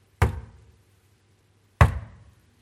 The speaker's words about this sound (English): All right, so when you come to the door, all right, it is important how you knock, okay? And my dad drummed this into us. All right, so you don't want to sound threatening. This sounds threatening, okay?